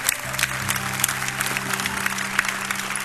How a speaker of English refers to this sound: Can we show by round of applause? Don't you appreciate all the people their first night?